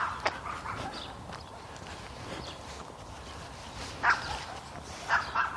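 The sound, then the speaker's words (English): A dog barks a few times, short sharp yelps spaced apart over a steady wash of outdoor background noise. “Yep, yep, yep, dog.”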